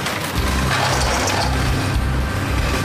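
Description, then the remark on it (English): A car shredder rips a flattened car, fed in on a conveyor belt, into pieces with a loud, steady roar of grinding and crushing metal, heavy low rumbling pulses underneath harsh crackling and clattering, and no voices. “It takes a flattened car and puts it on a conveyor belt to get ripped into pieces.”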